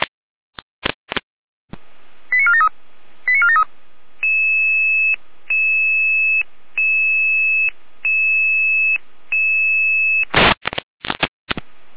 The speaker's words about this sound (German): Ja, leitstellige Name, Proberuf, Florian Seifert-Rudelstadt, Gruppe 6. Jede Alarmierung.